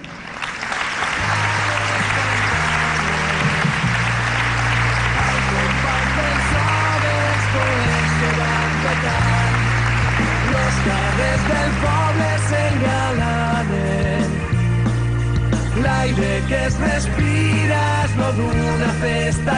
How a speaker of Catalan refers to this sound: Demanem que pugin a l'escenari i també doncs, la rebrem amb un fort aplaudiment.